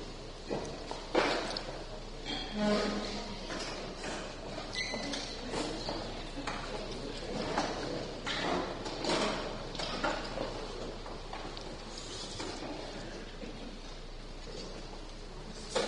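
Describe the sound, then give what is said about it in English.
A room full of shuffling and clattering as people drag and turn chairs around to get together in pairs and groups, with scattered thumps and footsteps overlapping continuously at moderate loudness and a faint murmur of voices underneath. “Everybody just turn around some chairs and together.”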